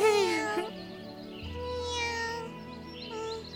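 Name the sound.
weak cat meowing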